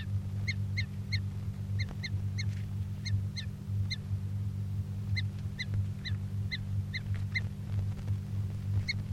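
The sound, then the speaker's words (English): A bird, numbered 338, gives repeated short, high-pitched calls in quick clusters of two or three while being handled, fairly steady throughout, over a constant low mechanical hum. No one speaks. “Recording bird 338 being handled.”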